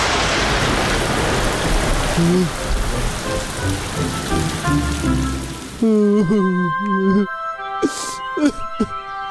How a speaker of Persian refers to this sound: باران برید و اونا کاملا تر شدن.